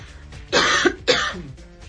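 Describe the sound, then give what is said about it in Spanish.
Two short, harsh coughs in quick succession, fairly loud, with quiet room tone before and after and no talking. “Pero no te preocupes, tose, bebe un poquito de agua.”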